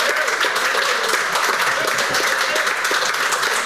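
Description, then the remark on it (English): A crowd at an event in Ireland applauds steadily, many hands clapping in a dense, continuous patter that stays loud and even throughout, with faint voices mixed into the noise. “Please, folks, give yourself a round of applause if you don't have a pint in your hand.”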